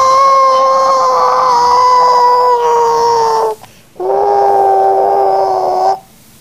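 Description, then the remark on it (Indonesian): Two loud rooster crows in a row in the morning, the first long and drawn out, the second shorter, each a steady, bright, harmonic call that drops slightly in pitch before cutting off. “Nah, udah pagi ayamnya suruh bunyi. Kokoloyo.”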